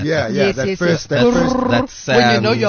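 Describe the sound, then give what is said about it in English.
A man's voice singing "do do do do", pitched down into a deep vocal growl at the opening of a song. It comes in several loud bursts with brief gaps between them, sounding gravelly and slightly unnatural, like a lowered human voice imitating a beast's roar. “It's just a guy do do do do, and then I pitched it down so it sounds a little bit weird.”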